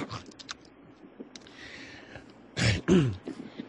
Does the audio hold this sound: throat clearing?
yes